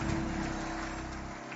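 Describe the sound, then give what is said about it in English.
A church audience applauds for the First Lady of Covenant Nation in a dense, steady wash of clapping that holds at a fairly even loudness and eases off slightly toward the end, with no voices standing out. “Clap your hands, please, for First Lady.”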